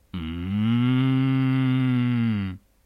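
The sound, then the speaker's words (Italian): An ox lets out one long, steady moo lasting over two seconds, deep, droning and loud, with no other sounds around it. “rispose il bue”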